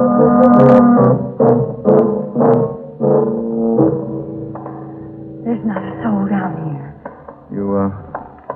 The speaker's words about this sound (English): No, I heard that bell. I tell you, I heard... Oh, I've heard it, my dear young woman.